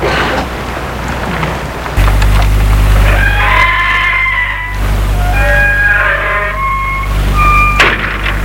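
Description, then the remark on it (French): After a couple of seconds of rustling as a woman leads a man into her car and gets in, the car engine starts and settles into a steady low rumble, with high chirping tones flickering over it. “Elle le mène à sa voiture, le fait entrer, entre et met la voiture en route.”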